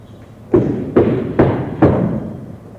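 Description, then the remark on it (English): Four steady knocks on a chief's door, evenly spaced about half a second apart, each a firm, dull thud with a short ring-out, with no voices. “Knocks on his chief's door.”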